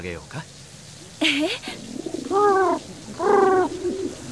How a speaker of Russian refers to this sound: Голуби здесь такие дружелюбные.